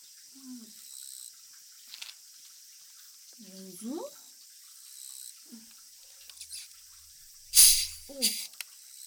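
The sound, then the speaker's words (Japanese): A quick, loud hiss of carbonated head spa spray, prepared for summer, bursts out near the end, followed by a second shorter spurt, after a stretch of quiet murmuring voices and small soft sounds. “炭酸ヘッドスパです。夏用にご準備させていただきました。”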